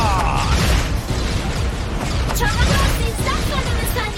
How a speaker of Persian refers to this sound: حالت انفجار!